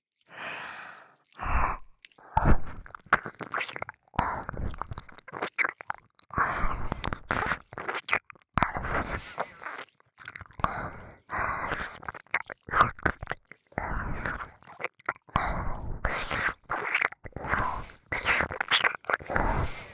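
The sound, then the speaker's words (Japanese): Wet, chewing-like mouth sounds very close to the ear, coming in quick irregular bursts of clicks and smacks that continue steadily, with no clear speech. “咀嚼みたいな耳の目もっと味わって。”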